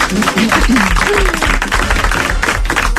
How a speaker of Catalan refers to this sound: Bueno, un aplaudiment.